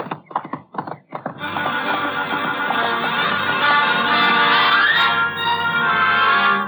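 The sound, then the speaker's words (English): A few quick hoof clip-clops, then a long, loud horse whinny with shifting pitch that carries on for several seconds, prominent with no talking. “It was up to the horses, and I had the best.”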